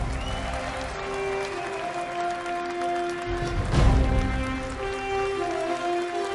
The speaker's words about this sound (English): So please welcome to the stage, with a little more applause, the Commissioner of the National Football League, Mr. Roger Goodell.